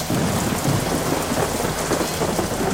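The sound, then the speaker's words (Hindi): Heavy rain pours down steadily in a dense, loud hiss over the village of Baliya at 10 in the morning under thick clouds, with a deep rumble of thunder rolling underneath throughout. No voices are heard. “बलिया गांव में तेज बारिश हो रही थी।”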